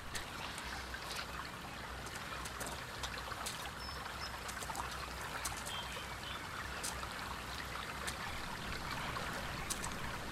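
River water trickles and babbles steadily throughout, a continuous wash of flowing water flecked with small splashes and bubbling drips, with no voices.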